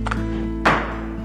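A single heavy thump, like a shoulder slamming into a door, follows a fainter knock, with a steady low hum underneath and no voices. Police are helping try to break down a door to get inside a house.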